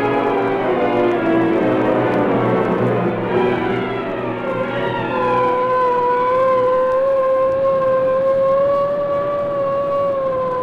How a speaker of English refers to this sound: Police car hurrying through the city streets